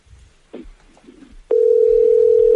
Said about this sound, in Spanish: A lo mejor te cortan, José Ignacio, los tonos de la llamada